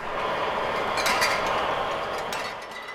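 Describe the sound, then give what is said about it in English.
An antique soda bottle mixer with five stocky arms that latch onto bottles and swing them up and down on a rotating table, mixing syrup and carbonated water, rumbles and clatters steadily, with a few sharp glassy clinks cutting through the loud, continuous mechanical din. “We're now at the mixer, another antique with five stocky arms that each latch onto a bottle and swing it up and down”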